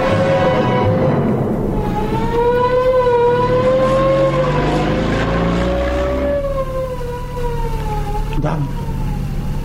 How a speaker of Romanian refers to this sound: O ambulanță. O ambulanță, o ambulanță.